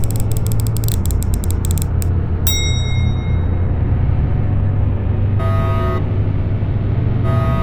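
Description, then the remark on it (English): Rapid mechanical ratcheting and clicking of ship controls as power bus breakers are closed and fuel mixers primed, then a sharp metallic clunk followed by a couple of short tonal whirring bursts, all over a steady low engine-like hum, fairly loud. “Closing power bus breakers. Priming fuel mixers? Captain, none of these are happy sounds.”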